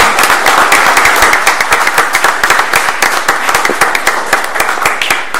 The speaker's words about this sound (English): Yeah, congratulations, everyone. A round of applause.